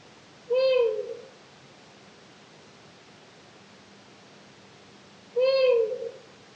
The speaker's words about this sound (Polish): Tę tajemniczą piosenkę samicy uszatki zwyczajnej rok temu nagrał jeden z moich ulubionych łowców ptasich głosów, Lars Edenius. Szwedzki obserwator upolował ten dźwięk o 5 rano.